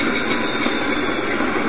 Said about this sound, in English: Spent nuclear fuel from a Magnox reactor is en route to the world's largest reprocessing plant at Sellafield in England. It makes a routine rail journey through the heart of London.